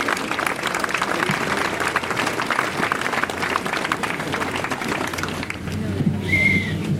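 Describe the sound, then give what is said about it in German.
Steady, dense applause from an audience for three men who have arrived on stage, a crackling wash of many hands clapping that fades slightly toward the end, where a brief high whistle-like tone appears. “Ein Applaus für die drei Herren nochmal, jetzt mittlerweile auf der Bühne angekommen.”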